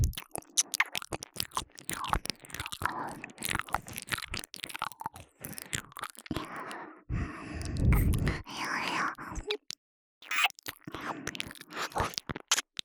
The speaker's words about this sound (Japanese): 気がつきましたか。耳なめの音、より下品になっています。この咀嚼するような品のない音、